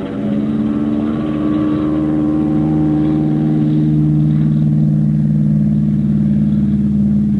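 A propeller plane's engine roars loudly and steadily at full power, its deep droning hum swelling slightly as it revs up for takeoff, leaving the ground after about 200 yards, with no voices over it.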